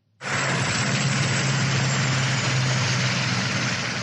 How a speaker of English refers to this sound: From the police helicopter hovering above, it looks like a normal, everyday rush hour traffic jam on a highway on the outskirts of the port city of Durban.